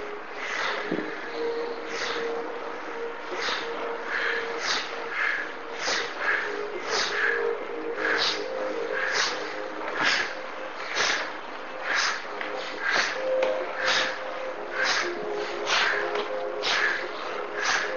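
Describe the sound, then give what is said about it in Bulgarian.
Rapid, forceful bhastrika bellows breathing: sharp, breathy in-and-out bursts repeat at a steady quick rhythm of about one and a half per second, over a soft sustained tonal drone. “Влез в дишане бастрика за няколко минути.”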